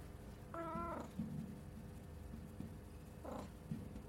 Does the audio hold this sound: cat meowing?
yes